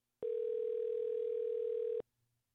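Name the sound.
telephone dial tone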